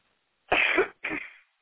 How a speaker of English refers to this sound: Now, I'm going to call those things to go out, and I want you to just cough for me, okay? Take some deep breaths and cough them out. Go ahead, do that. Take a deep breath and cough them out.